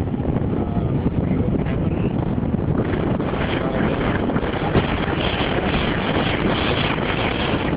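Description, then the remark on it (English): Wind buffets the microphone outdoors near Bunkerville in a continuous, loud, low roar, with gusty fluttering rumbles that never let up for the whole stretch. “I can't hear me because of the wind out there.”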